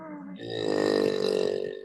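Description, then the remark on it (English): A single sustained, buzzy voiced note sung while breathing in, fairly loud, holding steady for nearly two seconds with a rough, croaky texture and no talking. “Same note, breathing in.”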